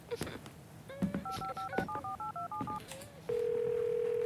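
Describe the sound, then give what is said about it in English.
A quick run of about eight telephone keypad beeps as a phone call is dialed, short paired tones in an uneven rhythm, followed by a steady continuous tone that starts up and holds to the end. “I'm gonna make a phone call, but I'm just around the corner, okay?”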